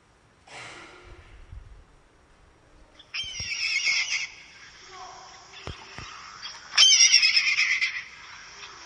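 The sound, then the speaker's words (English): A red-tailed hawk gives three harsh, raspy screams spaced a few seconds apart, the last one loudest, with quiet background between calls and no talking. “It's a red-tailed hawk.”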